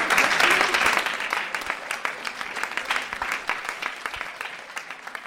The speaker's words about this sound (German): Nach circa 30 Minuten vollkommene Stille. Und dann der wohlverdiente Applaus.